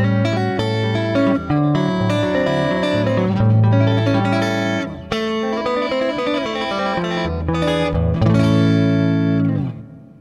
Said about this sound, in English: And here's my clean guitar type sound here.